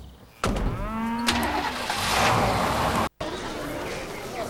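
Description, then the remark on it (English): A pickup truck engine turns over and catches with a sudden roar, its pitch sweeping upward before settling into a steady, rumbling run, broken by one brief dropout near the end. “She gets in the pickup with him and puts on her baseball cap.”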